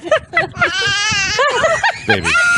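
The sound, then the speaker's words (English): A goat bleats in loud, wavering cries, alternating with a child's similar high-pitched wails, several calls in quick succession. “It starts with the child, then the goat.”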